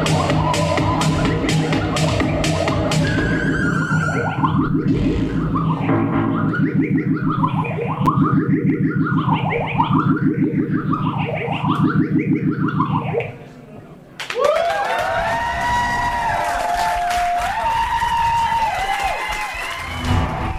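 A loud, heavily distorted live band playing at a music venue roars with a dense wall of noise like a jet engine taking off and repeated swooping, wavering tones, then briefly drops before returning with warbling, echoing feedback-like sounds.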